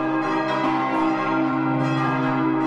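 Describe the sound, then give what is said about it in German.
Large church bells, rung by bell ringers pulling on ropes, ring loudly in a bell tower, their overlapping tones blending into a dense, sustained wash of humming resonance with no voices present. “Sie nehmen die Ohrenschützer vom Kopf, geben sich schweigend die Hand und lauschen dem Nachhall der Glocken, der noch minutenlang den Glockenturm erfüllt”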